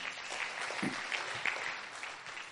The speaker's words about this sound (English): And everybody say amen. Clap your hands as you're seated.